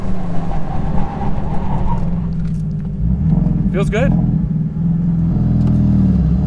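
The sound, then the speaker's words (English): A car engine and exhaust drone loudly and steadily throughout, with a brief rising rev partway through as the car pulls hard in fourth gear; a man speaks briefly over the engine noise. “This feels more than just an exhaust, too. Do you feel that pull? That fourth gear pull?”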